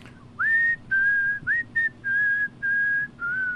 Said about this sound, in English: Entertain the people with whistling. Entertain the people with whistling.